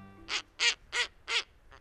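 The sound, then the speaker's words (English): A snowy owl gives four loud, harsh, rasping calls in a steady rhythm, each about a third of a second long, followed by a fainter fifth. No one speaks. “Snowy owls are glamour birds.”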